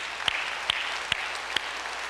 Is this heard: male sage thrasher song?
no